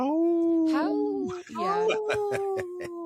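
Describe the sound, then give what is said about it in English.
A man's voice imitates a wolf howl to say no to the Minnesota wolf hunts, in two long, sustained, wavering notes that slide in pitch, fairly loud, followed by a few short sharp sounds at the end. “So I speak wolf. When I say no, I go,”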